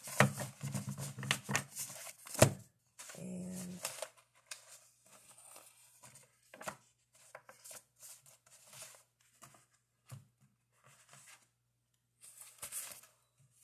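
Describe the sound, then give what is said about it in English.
A deck of tarot cards is shuffled in quick riffling bursts and soft slides, with papery flicks and taps scattered through, some longer rustling runs, and brief quiet gaps between handfuls. “Shuffle.”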